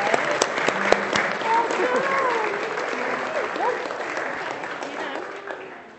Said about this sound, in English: I think we can give her a clap. She's done very well.